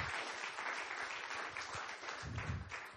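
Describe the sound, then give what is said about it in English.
An audience applauds steadily in praise of God at a morning church service, a dense wash of many hands clapping with a full sound that stays loud throughout and never breaks into separate claps. “Give Him another hand of praise here this morning.”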